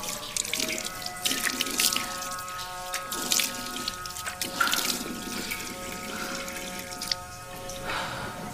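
Tap water runs steadily into a sink, with splashes and irregular bursts as hands scoop and splash water, a close, continuous wash with no voices.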